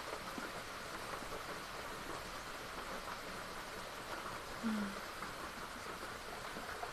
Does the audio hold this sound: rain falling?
yes